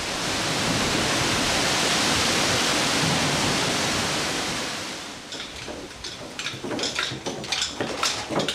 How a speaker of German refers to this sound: Vor uns stürzt das Wasser des Agumaza rund 60 Meter in die Tiefe.